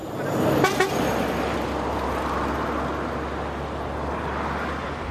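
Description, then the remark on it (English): Steady, loud roadway rumble of cars and trucks passing along a road, with a short horn toot near the start and no talking. “And every car and every truck that passes me by, the drivers are staring intently into their rear view mirrors or into their side mirrors.”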